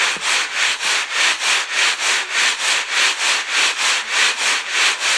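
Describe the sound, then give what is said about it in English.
Soil being screened at a dig: a steady back-and-forth scraping, about a dozen even strokes of gritty, hissing rasp repeating at a quick rhythm, with no talking. “Yep, currently screening it and digging it.”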